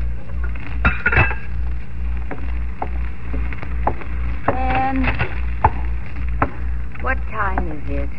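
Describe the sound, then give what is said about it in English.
Pots, pans and cutlery clank and clink in irregular bursts over a steady low hum in a kitchen in Chicago where a man is getting his own breakfast, with several sharp metallic strikes and a few ringing tones, moderately loud. “She usually slept on undisturbed until she heard the pots and pans in the kitchen where Ben was getting his own breakfast.”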